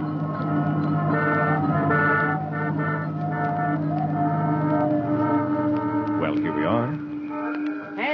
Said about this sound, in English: My cab is waiting. Won't you step in? All right, driver, to the little theater. Uptown, past the bright lights and excited crowds of Upper Broadway.